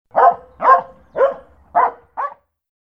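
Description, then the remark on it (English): A dog barks five times in a steady, evenly spaced series, each bark loud, the last one shorter and slightly weaker, with no talking around it. “Be kind to the dog.”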